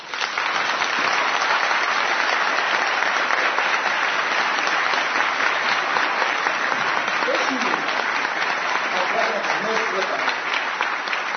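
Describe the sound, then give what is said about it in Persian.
An audience at a seminar applauds steadily and loudly for about eleven seconds for a person invited to stand up, a dense, even wash of many hands clapping with no pauses or spoken words. “من دوست دارم یک نفر دعوت کنم، بلندش کنم، همیشه دوست داشتم بلند کنم توی سمینار، الان اینجا هم از دعوت میکنم بلند شه، همه تشویقش بکنید.”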